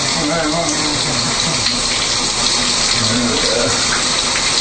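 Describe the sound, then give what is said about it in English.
Shower water runs in a steady, loud hiss that fills the whole clip as a person takes a quick shower, with a faint murmur of a voice blending into the spray. “God, now, I take a quick shower, don't I?”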